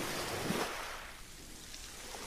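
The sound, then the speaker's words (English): Ocean waves wash onto the shore in a soft, steady hiss. One surge swells early and then recedes into a low, continuous rush with some wind, and no voices. “The sound of the water.”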